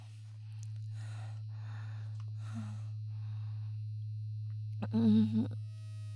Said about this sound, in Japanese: ああ、バイブすごいわ。聞こえる？バイブの音。